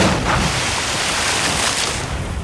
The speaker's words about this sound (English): The plane crashes into the ocean.